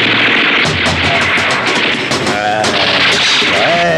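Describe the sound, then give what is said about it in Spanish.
A rapid burst of loud submachine-gun fire, many sharp shots in quick succession over four seconds, with bright metallic clanks and ringing impacts mixed in as bullets strike and blow open the lock of a metal warehouse door. “El astuto jefe de la organización apunta hacia la cerradura de la puerta metálica y acciona el arma.”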